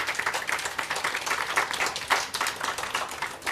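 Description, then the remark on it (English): An audience applauds at the end of a talk, a dense wash of many hands clapping at once with crisp, bright claps blending together, fairly loud and sustained throughout without any talking. “Big applause.”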